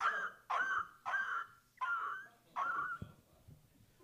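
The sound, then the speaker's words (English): A man's voice imitates the sound of dogs in Baghdad with five short, rough yelping barks in a steady rhythm, fairly loud, with no words spoken. “Our dogs made a different sound.”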